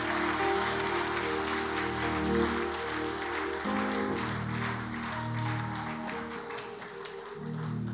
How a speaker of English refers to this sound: If that clapping was for me, that's too much. If for the Lord, it's too little. Give the Lord.